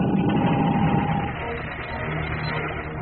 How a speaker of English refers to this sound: Airlock filled. Open the door.